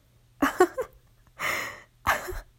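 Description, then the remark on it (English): Three short, breathy sniffing bursts, separated by brief pauses, as someone sniffs a pair of worn panties held in the hand. No one speaks. “It's very obvious you're sniffing my panties.”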